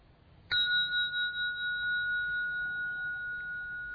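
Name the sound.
bell being struck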